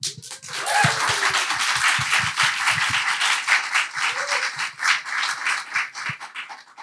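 audience applause and clapping

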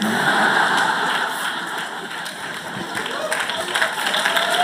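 audience clapping

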